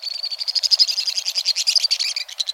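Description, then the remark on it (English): A pair of white-throated swifts careens by at high speed, their rapid, shrill twittering calls pouring out in a dense, continuous chatter of high-pitched notes that ricochets off the sheer stone walls of a western canyon, steady with no pauses, then fading slightly at the end; no one speaks. “A torrent of shrill notes ricochets off the sheer stone walls of the Western Canyon.”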